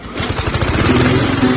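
A lawn mower engine sputters to life as someone starts mowing the lawn on a beautiful day outside, then settles into a loud, steady drone with a rapid chugging pulse, running on its own without any voices.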